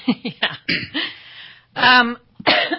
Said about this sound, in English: I'm getting over bronchitis, so if I'm coughing, forgive me. Just cough the other direction.